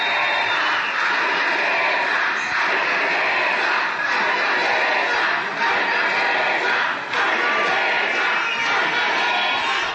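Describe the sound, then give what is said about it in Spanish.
A crowd of more than 1,200 people applauds and cheers after a victory speech in Bogotá, in a dense, unbroken roar, loud and steady throughout, with shouts rising out of the clapping and no clear speech. “Las más de 1,200 personas que se encuentran en estos gracias momentos aplaudiendo”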